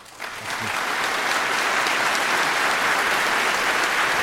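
An audience in Hamburg bursts into applause for the start of a talk on hacking into Apple's new USB-C controller, the clapping swelling within the first half second into a dense, steady roar of many hands that stays loud and even throughout.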